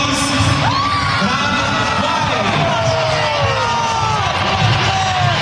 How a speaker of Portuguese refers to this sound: Também bem aplaudido.